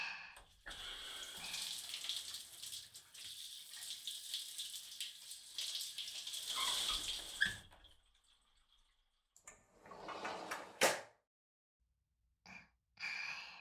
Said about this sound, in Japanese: シャワーで体流しましょう。